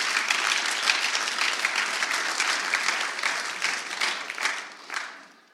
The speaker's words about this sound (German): Da dürfen wir gerne nochmal für klatschen, für die 5 Leute.